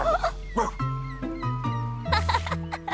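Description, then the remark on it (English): A few short barks from Clifford the dog come in bursts near the start and again later, sounding over a bed of stepping musical tones at moderate loudness. “Wow, Clifford is a really great dog.”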